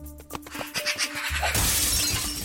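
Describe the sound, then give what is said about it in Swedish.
A sharp crash of breaking glass as a magpie crashes through a window, with a burst of impacts followed by a bright, sustained tinkling spray of shards that fades out over a couple of seconds. “Vi har 10 fåglar att höra krasa genom en fönster ut här, med andra ord.”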